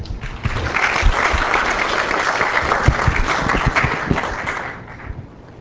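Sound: audience applause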